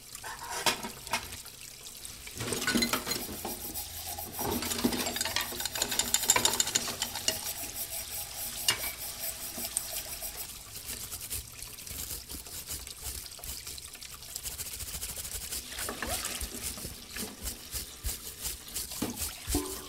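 A busy rhythmic piece built from kitchen noises: clinking, clattering dishes and running, trickling water, layered into a steady loop that carries on throughout without any voices.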